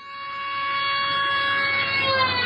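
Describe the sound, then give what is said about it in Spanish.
A car horn blares continuously as a car passes and moves away, the harsh steady tone swelling louder and its pitch dropping as it goes by, over a low rumble of traffic. “Claramente es un coche que pasa tocando el claxon y se aleja.”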